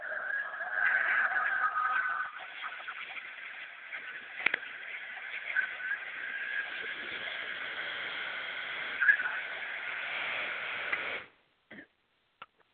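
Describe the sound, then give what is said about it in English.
A race car engine roars to life with a loud, sustained whine and squealing tires for about eleven seconds before cutting off abruptly, leaving a couple of faint clicks. “Start your engine!”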